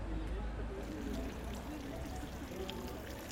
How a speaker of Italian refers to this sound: Ah, e fai caso anche a un suono che non può prescindere da questo luogo, quello dell'acqua della fontana nel cortile della Basilica e quello che senti e vedi attraverso una grata nei suoi sotterranei.